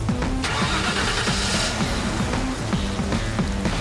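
vehicle, car engine starting

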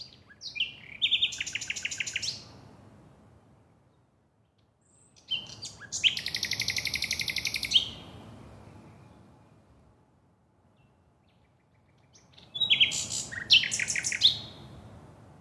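bird, nightingale singing

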